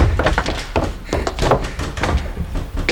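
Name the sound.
heavy door being shut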